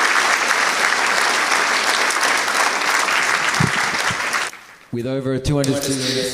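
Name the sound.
audience applause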